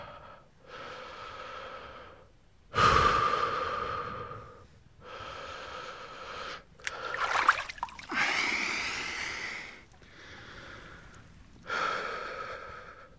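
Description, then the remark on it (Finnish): Heavy, deliberate breaths from a person standing waist-deep in a hole cut in ice, breathing before plunging into the cold water; slow rhythm, each long inhale and exhale rushing and hissing, with a few sharp snorting gasps mixed in. No one speaks. “Täytyy pikkusen hengitellä tässä ja sitten pulahtaa.”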